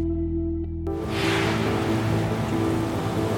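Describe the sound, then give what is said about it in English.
A low droning tone gives way to a steady, rushing wash of ocean waves breaking on a white-sand beach on a bright, sunny day, loud and continuous, with a faint low hum lingering underneath. “Out on the beach, it was a day made for flip-flops. Bright sun on white sand, sparkling water as far as the eye could see.”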